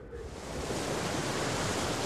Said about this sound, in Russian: Ну и, конечно же, новое слово, связанное с сегодняшним звуком на фоне, звуком моря.